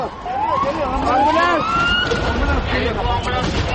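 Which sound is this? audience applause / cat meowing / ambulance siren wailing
ambulance siren wailing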